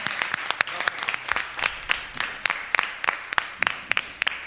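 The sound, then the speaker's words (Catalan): A burst of lively applause from a group, given to a quiz contestant, with many sharp, overlapping hand claps forming a dense, steady patter for several seconds, with no voices present. “Però igualment et guanyes un mega aplaudiment.”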